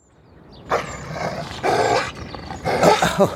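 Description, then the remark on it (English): A neighbour's dog growls and snarls in three harsh, rough bursts, fairly loud, with short pauses between them and no one talking. “But that isn't our dog, it's our neighbour's.”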